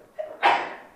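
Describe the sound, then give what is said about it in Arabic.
A single sneeze: a short rising intake of breath, then an abrupt, loud, breathy burst that trails off quickly. No one is talking over it. “رحمك الله، والمراد منها”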